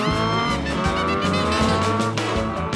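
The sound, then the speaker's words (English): Loud, revving motorbike engines roar for a few seconds, their pitch rising and falling as they race past, with a squealing edge and no voices. “They dressed in denim jackets and raced around on motorbikes.”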